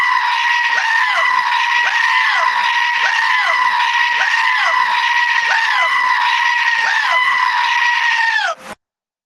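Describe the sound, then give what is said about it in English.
A rapid, unbroken string of seven loud, shrill goat screams, each call rising and falling in quick succession, repeating steadily before stopping abruptly. “As requested, seven goat screams in a row.”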